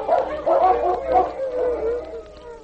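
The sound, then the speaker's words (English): Several sled dogs, among them King, howl and bark together in an excited chorus as they are released one by one, with overlapping yips and wavering howls rising and falling continuously, loud, no talking. “She released each dog in turn, while King leaped and barked instructions to his mates.”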